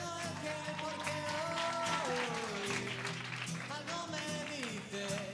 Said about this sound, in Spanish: Hoy es martes 4 de diciembre y estamos... ¿Dónde estamos? En San Miguel de Salinas. ¡En el Lidl Los Halcones! ¡Un aplauso!